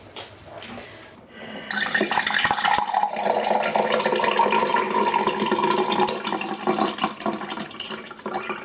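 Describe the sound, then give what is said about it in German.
Iced tea is poured into a glass, a steady splashing liquid stream that starts after a quiet moment and runs continuously for several seconds, with a rising gurgling tone as the glass fills. “Ich habe das perfekt eingegossen.”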